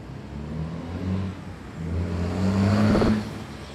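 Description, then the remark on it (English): Several cars pass by on a street in front of a store, engines humming and swelling as they approach, with a louder vehicle revving up near the end before fading slightly. “A cluster of cars make their way down the street in front of Flavia's store.”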